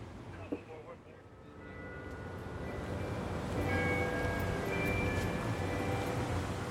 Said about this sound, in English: The bells strike 6 p.m.